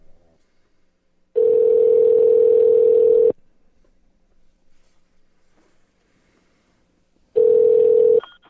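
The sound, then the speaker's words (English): A loud, steady telephone tone sounds in two long bursts as a phone call is placed, about two seconds and then under a second, separated by several seconds of near silence with no talking. “Some of these questions are delicate in nature, which leads me to believe this phone call should probably last about 30 seconds before I get hung up on.”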